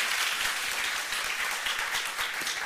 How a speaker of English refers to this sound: All right, let's give a nice round of applause again.